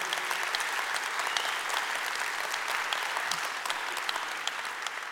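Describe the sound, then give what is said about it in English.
A large crowd applauds to greet the Wyoming and Nagpur campuses and the young people watching at the Kent County Juvenile Detention Facility. The clapping is dense and overlapping and holds at an even, fairly loud level for the full five seconds without building or fading. “Would you, by way of applause, let them know we love them?”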